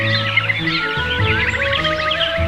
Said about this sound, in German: Im Frühjahr ertönt ein beeindruckendes Vogelkonzert.